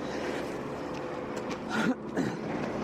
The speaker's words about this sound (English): Lorry is coming, though. On the way. Up.